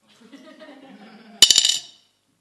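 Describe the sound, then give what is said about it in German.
Euro coins drop onto a hard surface, landing in a quick burst of three or four bright metallic clinks that ring briefly, preceded by a faint, low murmur. “Ich habe hier 3 Münzen. Ihr könnt gleich mal raten, welche das sind.”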